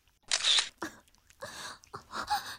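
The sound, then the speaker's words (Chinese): A camera shutter fires several times in quick, uneven succession, crisp mechanical clicks with brief pauses between shots and no voices. “你把我如此狼狈的样子拍下来，下流！你简直是不可饶恕！畜生！不要再拍照片了。”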